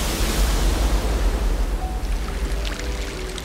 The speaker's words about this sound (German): Doch mit einem Mal kracht schäumende Wellengischt herein und wirbelt die Wasseroberfläche mit ungeheurer Energie durcheinander.